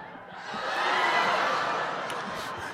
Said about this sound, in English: That was a genuine shriek from the audience.